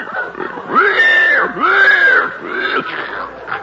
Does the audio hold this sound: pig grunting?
yes